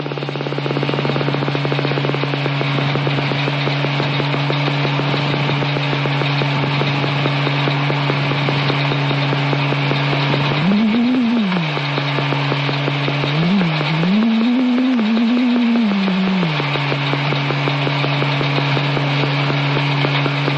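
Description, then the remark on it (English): A steady, low electronic biofeedback tone tracking forearm EMG muscle tension hums over a dense stream of rapid clicks tracking forehead muscle tension, and hiss, the tone briefly swooping up in pitch twice before settling back to its drone. “So the tone will track the forearm, the clicks are tracking the forehead right now.”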